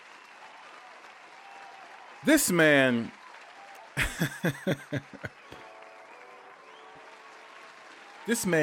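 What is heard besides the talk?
round of applause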